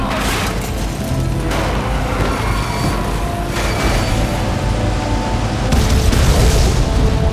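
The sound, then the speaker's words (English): A truck explodes into a fireball, a loud, sustained roar of deep rumbling with several crackling bursts flaring across it, steady and heavy throughout with no voices. “The heat of the fireball scorched Rourke's face as he glanced back.”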